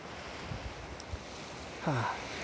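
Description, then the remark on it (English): A steady, hissing wash of sea waves rolls onto a beach continuously, mixed with wind rumble. A brief tonal sound briefly rises above it near the end. “I like that little bit sitting in my car before I leave, watching the waves coming.”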